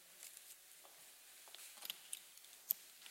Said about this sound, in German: Nun, liebe Gemeinde, versuche ich den dritten Schlüssel, wenn ich ihn finden kann. Ja. Ich versuche den dritten Schlüssel.